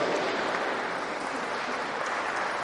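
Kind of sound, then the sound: crowd, audience applauding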